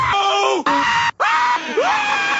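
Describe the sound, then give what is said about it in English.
A person screams loudly in a few strained, wavering bursts, the pitch sliding down and rising again, with a brief break in the middle and no other talking. “Then stop screaming so loud.”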